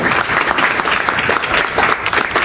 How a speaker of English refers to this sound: And I'd love it if y'all would welcome him with a round of applause.